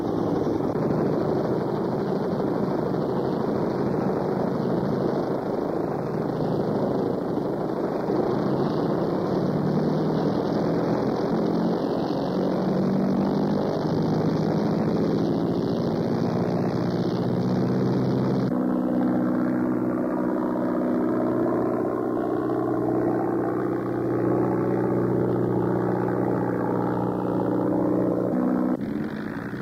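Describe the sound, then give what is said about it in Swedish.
A propeller airplane carrying an aerial reconnaissance camera drones in a steady, loud buzz for the whole stretch; partway through, the tone shifts and a layered harmonic hum emerges as the engine note changes. “Den hypermoderna flygkameran lastas ombord på planet, som sedan ska surra iväg för att ta närgångna bilder av flygstrategiskt riktiga punkter.”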